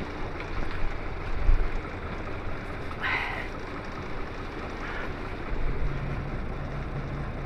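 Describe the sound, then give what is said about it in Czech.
A bus's diesel engine idles steadily at about 650 rpm, heard from a seat over the engine behind the back doors, a low, even rumble with a faint hum and a couple of brief hissing bursts from the doors over it. No one speaks. “Krásných 650 otáček za minutu.”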